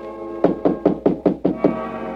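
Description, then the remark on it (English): Six quick, evenly spaced knocks on the wooden door of a guest's room in lodgings, moderately loud, with a faint background hum and no voices. “It was about a half hour later that I heard the tap on my door.”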